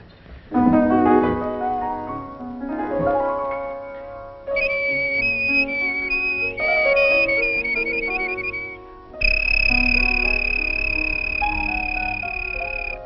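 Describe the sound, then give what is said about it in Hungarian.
Someone whistles a tune as a stage act, in three sustained, fairly loud phrases with wavering, buzzy high notes and short breaks between them; no one speaks. “Mivel kíván fellépni? Füttyel.”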